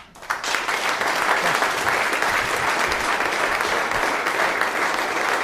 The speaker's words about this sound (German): Und mich freut es extrem, dass er heute Abend da ist. Ich würde sagen, einen grossen Applaus. Das ist der Matthias Hüppi.